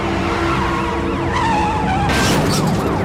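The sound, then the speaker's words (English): Tires of a stolen car driven by a teen in a police chase screech loudly in a wavering squeal, then a sudden harsh crash of metal about two-thirds through as the car hits a guardrail grill first at a dead end, with police sirens wailing in the background. No one speaks. “The stolen car charges grill first right into a guardrail.”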